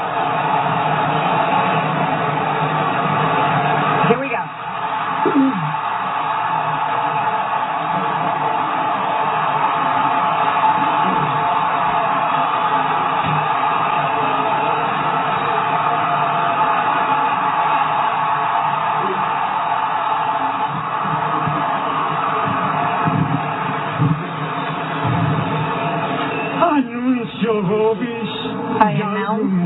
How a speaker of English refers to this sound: Announces the name of the new pope. You hear the crowd picking up in intensity, their reaction.